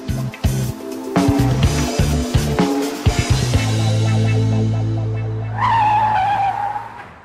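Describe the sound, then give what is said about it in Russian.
A car screeches to a sudden halt in front of a man on a street at night, tires skidding loudly for several seconds after a burst of engine noise, ending with a high squeal. “Перед Растяпкиным затормозила машина.”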